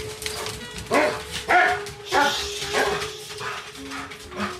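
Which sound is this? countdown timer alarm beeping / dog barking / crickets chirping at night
dog barking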